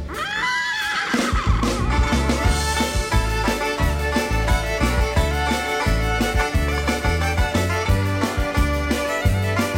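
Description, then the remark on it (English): A horse's whinny rises and wavers for about a second at the start, then upbeat music with a steady, driving beat and bass carries on loudly to the end. “And I got a little horse, kick him in the rear, he goes.”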